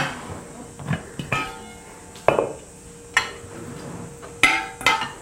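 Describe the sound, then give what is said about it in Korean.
A metal cooking pot, prepared for steaming sheets brushed with seasoning sauce, is set down and shifted around, giving about six sharp clanks and knocks at irregular moments, a couple leaving a brief metallic ring. No one speaks. “자, 냄비도 제가 준비했습니다.”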